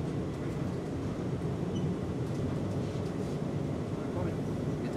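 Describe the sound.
An airport terminal shuttle train rumbles steadily, heard from inside the car as it pulls into the Terminal 3E station, with a constant low roar and a faint, muffled voice in the background.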